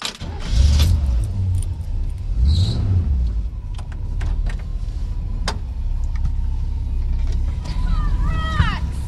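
An old car pulling away for a drive around the block, its engine a steady low rumble with scattered clicks and metallic jangles, and a quick run of rising squeaks near the end.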